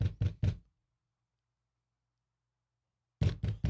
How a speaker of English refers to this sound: So I go, finally, knock on the door.